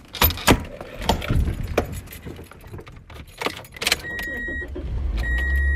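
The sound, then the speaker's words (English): Keys jangle in sharp metallic bursts while the door of a Toyota Corolla opens and thumps shut, followed by a steady tonal chime and the low rumble of the engine starting and idling. “And she's got a whole system worked out to turn her Toyota Corolla into a mobile workstation.”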